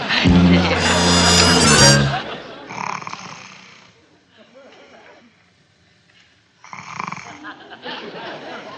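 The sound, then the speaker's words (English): A loud, buzzing snore from a small male sleeper rumbles for about two seconds, followed by quieter raspy breaths and another rough snoring burst near the end. “Yeah, for a little guy, he sure snores big.”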